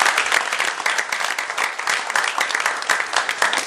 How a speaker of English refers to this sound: Give this young man a big round of applause.